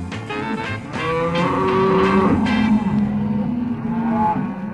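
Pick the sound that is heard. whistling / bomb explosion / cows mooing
cows mooing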